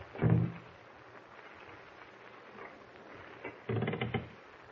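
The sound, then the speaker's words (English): A door is tried from outside: a heavy thump at the start, a stretch of low background, then a second burst of rattling and clattering at the door as someone tries to open it, with no voices. “Someone at the door. He's trying to open it.”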